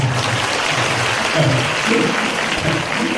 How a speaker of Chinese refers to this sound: 其实呢，这些方法你们鼓掌啊，我告诉你，不是，我说你们鼓掌啊，鼓得太早了。